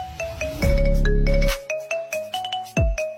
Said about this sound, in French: Voici comment changer la sonnerie de votre téléphone par une musique que vous aimez. Comme ça.